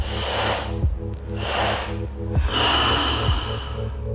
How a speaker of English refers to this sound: So taking an easy breath in through the nose to arrive in a line. And we'll meet at the bottom of a long exhale. That's me breathing.